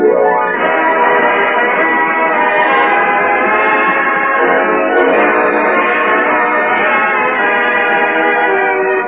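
An orchestra of 25 men plays a short passage of sustained, full-bodied music as a radio preview, holding rich chords at a steady loud level for several seconds with a thin, old-radio tone and no voices.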